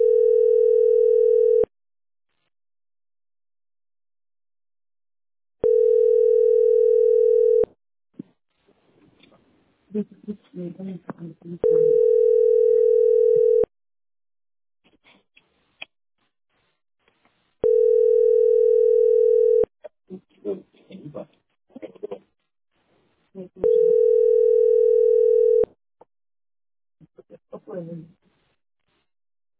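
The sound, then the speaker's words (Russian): A steady, mid-pitched telephone ringback tone repeats five times, each burst about two seconds long with roughly four-second gaps, while muffled voices talk in the pauses. “Телефон тянется.”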